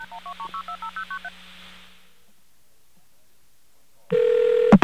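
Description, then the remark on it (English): A rapid run of about ten touch-tone beeps dials the number of Michigan Bell's Automated CNA Bureau, each a short dual-pitched tone, followed by a pause of silence and then a loud steady tone with clicks as the line connects. “Let's give that number a call. And what this is a call to something known as the CNA Bureau.”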